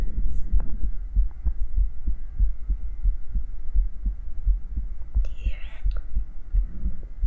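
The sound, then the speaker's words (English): A steady heartbeat thumps through a stethoscope placed on a microphone and held to a person's chest, deep muffled beats repeating in an even rhythm over a low hum, with a brief scratchy rustle partway through. “And I put a pair of stethoscope on the mic. And I'm gonna go see if I could. If I could hear my heartbeat.”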